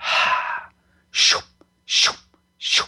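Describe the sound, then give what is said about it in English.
A voice makes breathy, wind-like white-noise blowing sounds to blow away an issue and break up stuck energies: one long hissing exhale followed by three shorter, sharp puffs in a steady rhythm, broad and airy with no speech. “Often I use like white noise and breathy sounds to blow away the issue.”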